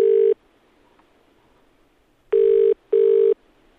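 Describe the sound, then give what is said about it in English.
A telephone rings loudly with an electronic buzzing tone, one short burst, a pause, then a quick double ring, with no voices. “So it wasn't Lord Coe that was ringing me?”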